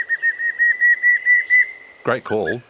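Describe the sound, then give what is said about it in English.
A pallid cuckoo gives a steady, pulsing whistled call, its notes repeating quickly at an even pitch for about two seconds. A person's voice briefly cuts in just after it ends. “Great call. But why is it called the pallid cuckoo?”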